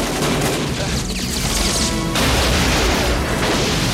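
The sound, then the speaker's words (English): Loud, dense bursts of gunfire from a firing squad and booming explosions crash together continuously as men shoot at a man climbing a trailer raised by a crane, a chaotic barrage of blasts and impacts with no clear pauses. “The explosions don't deter John, and he leaps towards the trailer, using his one good arm to hang on.”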